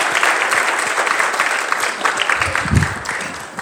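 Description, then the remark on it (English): An audience claps steadily for several seconds for children who took part, a dense, even patter of many hands at moderate loudness, with no voices rising above it. “And let's give them a wee bit of a round of applause for taking part.”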